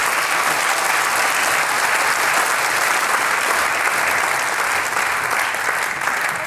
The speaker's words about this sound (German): Für das, was wir alles jetzt gehört haben, bitte einen kräftigen Applaus.